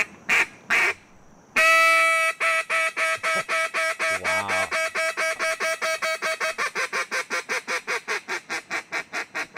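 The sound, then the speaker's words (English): A duck call blown by a man for a Steelers video feature: a couple of short sharp quacks, a long drawn-out honk, then a fast, steady run of clipped quacks that carries on to the end. No talking. “And like well, I say, if you want evidence of his duck calling prowess, this comes from the Steelers back in his time with the Steelers when he was showing them during a video feature of what he was all about, his duck calling prowess.”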